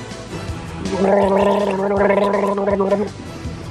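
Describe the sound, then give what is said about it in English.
A person makes a sustained gargling sound, a bubbling voiced rattle lasting about two seconds, fairly loud, with no talking during it. “Here, sip this. Hey, take it. Take, hold on. Now gurgle.”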